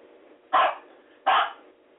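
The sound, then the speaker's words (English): A dog barks twice, loud, with sharp separate woofs about three-quarters of a second apart over a low steady background hum. “Y'all hear the dog?”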